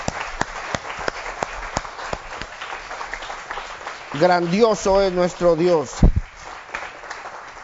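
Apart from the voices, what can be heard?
audience applauding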